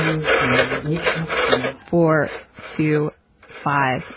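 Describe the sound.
A rotary phone dial turns with a raspy, ratcheting whir, and between turns a woman's voice quietly murmurs to herself in short phrases.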